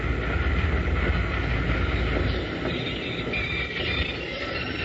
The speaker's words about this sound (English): He's got the train stopped, Jingles.